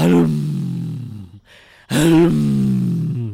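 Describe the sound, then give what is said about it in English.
A person imitates the roar a tiger made as it struck him, with two loud, drawn-out guttural bellows, each about a second and a half long, separated by a brief pause. “That was the sound the tiger made, was it?”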